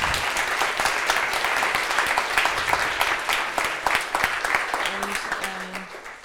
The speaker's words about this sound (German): Also herzlichen Dank erstmal dafür. Einmal Applaus.